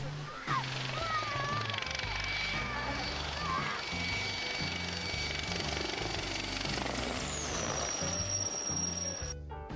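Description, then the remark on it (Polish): A military helicopter makes a low pass over a beach, roaring low overhead, its rotor thumping in a steady, heavy rhythm beneath a whining turbine, loud throughout the pass. “A co powiecie na ten spektakularny low pass śmigłowca wojskowego?”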